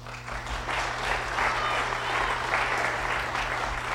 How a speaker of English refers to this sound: It will speed things up if you wait and applaud all of them at the end so I can go faster with the names.